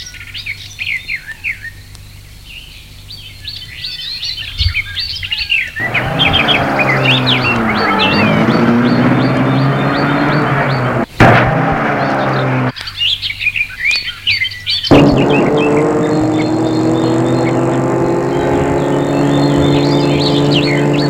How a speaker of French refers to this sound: Met la voiture en route.